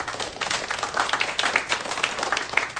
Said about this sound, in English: People are clapping for Iran? No, they're clapping that they think you got it right.